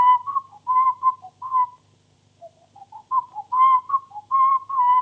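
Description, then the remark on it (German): A clear whistled melody of short, pitched phrases, a motif from Grieg's Peer Gynt Suite as whistled by the murderer in Fritz Lang's film M; a brief pause midway, then the tune resumes; fairly loud, with no talking. “In Fritz Langs M pfiff der Mörder ein Motiv aus Kriegs Peer Gynt-Suite.”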